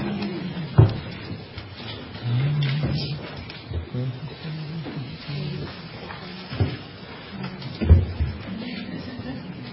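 Chairs are pushed back, scraping and bumping across a floor to clear space for a group photo at an award presentation, with a few sharp knocks and a longer dragging stretch, while faint murmuring voices carry on in the background.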